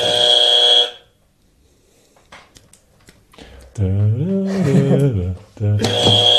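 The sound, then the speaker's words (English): A loud, harsh game-show buzzer blares for about a second, followed by faint clicking and a voice. Then the buzzer sounds again, just as loud and abrupt. “You're the buzzer guy. I'm the buzzer guy? Buzzer.”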